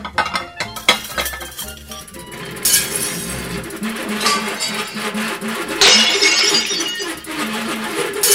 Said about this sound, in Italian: Ma i piatti? Sono tutti rotti!